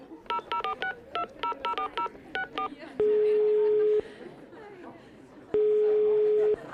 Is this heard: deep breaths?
no